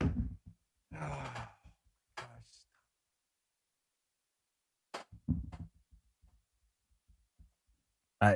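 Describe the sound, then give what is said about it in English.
A desk chair rolls and shifts as a man rolls around in it, giving irregular low rumbles, soft thumps and brief creaks in short bursts separated by quiet gaps, with no one talking. “That's me rolling around in my chair.”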